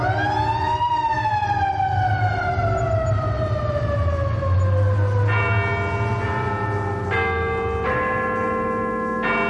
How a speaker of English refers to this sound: Look out, Doris, look out, there's an ambulance. Look out, it's one of them terrible New York policemen.